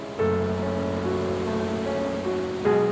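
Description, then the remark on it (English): River water coming out of two channels flows downward without resistance into a white-water wash and breaks into a standing wave against the backwater, with a steady, loud roar, while a faint sustained tonal hum runs underneath; no one speaks. “the water that's coming out from the two channels, it's not finding any resistance after because it's going down.”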